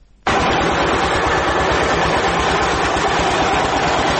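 The nearly 70-year-old production machinery of the Jabal Saraj cement factory north of Kabul, Afghanistan, starts abruptly and runs loud and steady. It makes a dense roaring rumble with a fast, regular low throbbing beneath it, and there are no voices.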